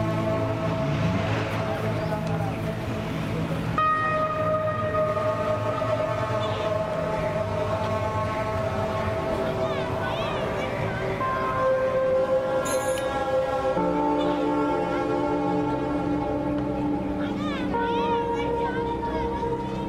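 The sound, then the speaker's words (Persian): A metro train runs steadily with a droning, whining motor hum and shifting tones, loud and continuous throughout, while faint voices murmur in the background. “نه امروز سر راه کار دارم، بابا مترو برم.”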